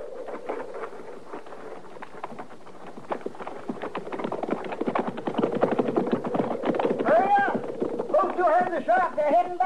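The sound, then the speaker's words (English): Horse hooves clip-clop in a steady, busy rhythm, fairly loud, with brief vocal sounds rising over them toward the end. “All right, get on that horse, Doc.”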